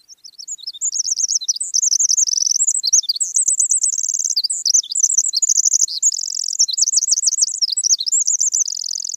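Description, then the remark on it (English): A Pacific wren (winter wren) pours out a long, continuous song of rapid high-pitched trills and twittering notes, bright, running without pause for the whole stretch with no voices present. “What a fabulous long cadence of the little winter wren.”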